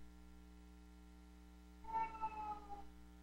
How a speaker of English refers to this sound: Well, I'm sorry if you folks can still get any audio from my cat. Maybe I could give another word to her. Okay, at least she responded, so she's listening.